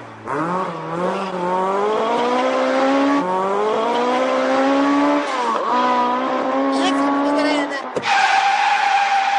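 A car, driven fast on an urgent trip toward India Gate in Delhi via Nizamuddin, speeds past with tires screeching, a loud, sustained whine that climbs in pitch over several seconds, breaks off briefly near the end, then screeches again.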